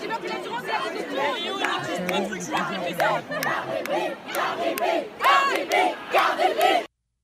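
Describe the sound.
A large concert crowd, left without a show after the performer left, chants a singer's name together in loud, rhythmic bursts, many voices overlapping in a steady, repeated call with shouting and chatter mixed in, then it cuts off abruptly.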